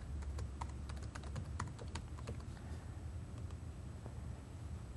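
Rapid typing on a computer keyboard, entering a user hint during an authentication demo: a burst of quick key clicks at first, then slower, scattered taps, all over a steady low rumble of background noise. No one speaks.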